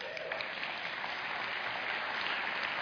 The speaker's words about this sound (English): Thank you very much. That's probably the only applause I'll get tonight.